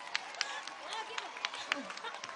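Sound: audience applause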